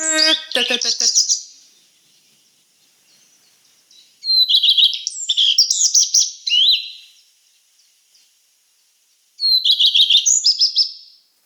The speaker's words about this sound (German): der klingt ein bisschen wie ein Buchfink, der seine Strophe nicht zu Ende macht